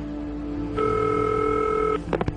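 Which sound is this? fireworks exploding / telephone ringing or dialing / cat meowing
telephone ringing or dialing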